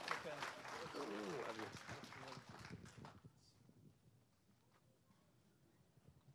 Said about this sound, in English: Welcome, welcome, welcome. Давайте хорошо поприветствуем. Let's welcome and applaud.